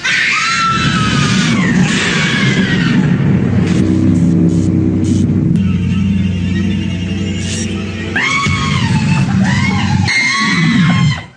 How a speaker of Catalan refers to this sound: Per cert, escolteu els crits que clava la gent aterrada de dins l'ascensor.